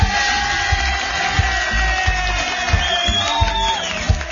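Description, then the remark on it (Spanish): A crowd cheering and clapping, with whoops and shouts rising over a steady wash of applause, loud and continuous throughout; an applause sound effect played for a birthday greeting. “Otra compañera tenemos, dale aplauso.”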